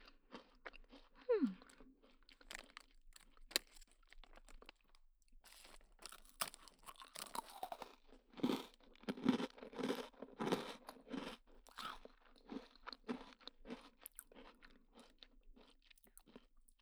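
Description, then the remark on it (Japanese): Crunching as someone chews a crunchy cookie, with repeated crisp bites and grinding in an uneven rhythm, growing busier midway through. No one speaks. “咀嚼音聞くたびに思い出しちゃうかも”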